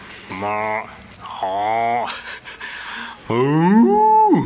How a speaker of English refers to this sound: Cows are pretty interesting to watch.